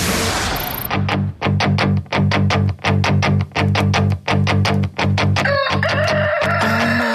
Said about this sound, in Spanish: El gallo es una chimba.